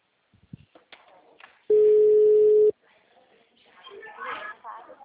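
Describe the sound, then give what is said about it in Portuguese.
A telephone that has just been put back rings: a single loud, steady ringing tone at a low-mid pitch lasting about one second, framed by soft murmuring voices and faint rustling before and after. “A gente põe o telefone de novo, aí toca.”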